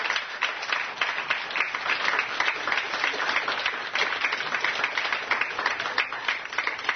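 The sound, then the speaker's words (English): A crowd claps and applauds continuously for several seconds to give God praise, a dense, steady wash of many hands, with faint voices mixed in underneath. “Clap them hands and give God praise.”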